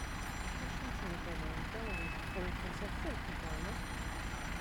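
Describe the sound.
A heavy truck engine rumbles steadily, with a single brief high-pitched beep partway through and faint, indistinct voices mixed into the background noise.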